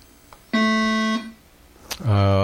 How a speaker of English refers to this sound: Hold on. You already buzzed in, oh, Roihart. Oh, my bad. Yep, so only Lockport can buzz in if they want to.